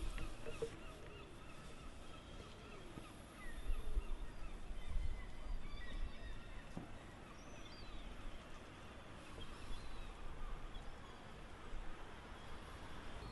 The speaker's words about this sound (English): I used to see it when I was younger, on this right hand cliff and the left, and it was always these sort of cliff top houses, always instantly recognisable as Brixham, and you can hear the seagulls and the harbour and everyone doing their thing.